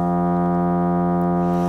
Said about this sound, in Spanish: Y para ello, utiliza un teclado, un piano o, como vas a escuchar aquí, un generador de tonos, ¿no? Aquí te pongo un ejemplo, producimos el tono, en este caso es un fa.